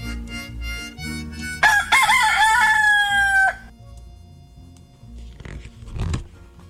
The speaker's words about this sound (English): When the little rooster awoke the next morning, he did what roosters were born to do. He sang.